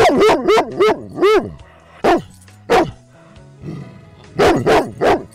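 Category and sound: animal, dog barking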